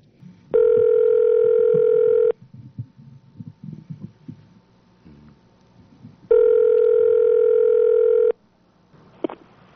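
Two long, steady electronic telephone tones, each about two seconds, separated by a pause filled with faint, muffled line noise and clicks, as radio station KAPULP in Watsonville, California places a phone call to Oahu.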